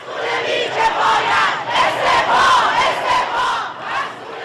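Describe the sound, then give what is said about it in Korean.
A large crowd of anti-government protesters in Iran, mostly university students and other young people, chants slogans against the government and military over the downing of a Ukrainian passenger plane, in loud, rhythmic bursts, many voices rising and falling in unison with a steady cadence and no pause in the noise. “시위대 현장 소리 잠시 들어보시죠.”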